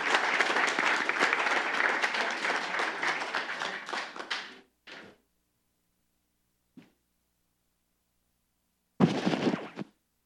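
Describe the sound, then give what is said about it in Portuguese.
An audience at a worship gathering in the city council chamber applauds for the Lord at the end of a prayer, steadily for several seconds. Then the clapping stops abruptly, followed by a few scattered claps and one last short burst of applause. “Dê uma linda salva de palmas para o Senhor, amém?”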